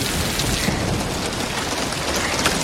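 Heavy rain pours down steadily, a dense, continuous hiss with a low rumbling undertone, loud throughout with no voices.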